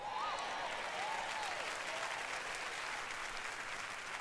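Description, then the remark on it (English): A crowd applauds steadily for several seconds in response to a speaker saying God is their nest egg, a dense, even wash of clapping with faint cheers or whoops rising briefly above it near the start. “I'm going to repeat that because some of y'all didn't clap because you don't believe that God can take care of you better than a retirement plan.”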